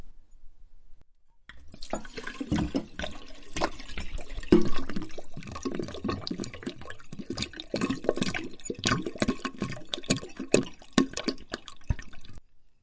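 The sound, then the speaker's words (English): Red wine glugs and splashes steadily from a bottle into a sink drain for several seconds, with irregular gurgles and drips and no talking. “Dad says you gotta pour it down the drain.”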